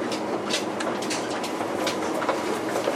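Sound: limited express train departing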